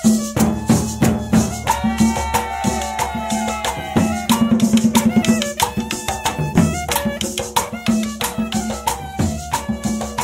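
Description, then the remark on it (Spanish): Lively Colombian cumbia in millo format, with a bright, reedy cane millo flute carrying the melody over steady, driving hand drums and shaker rhythm, played loud without any voices. “La cumbia en formato de millo suena así.”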